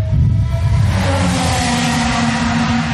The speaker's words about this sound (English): And the cars are just out there practicing. They're testing. They're setting up the car properly. They're very buzzy. It's not like NASCAR. No, because the cars are all turbo engines, so it's sort of this whine of a turbo.